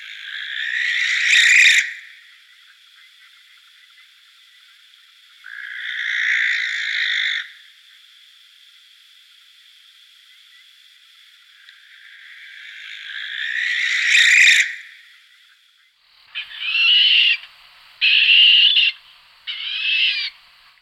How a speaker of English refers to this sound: The barn owl call at dusk is wonderfully chilling and unbird-like.